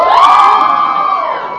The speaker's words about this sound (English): You can scream, you can make noise.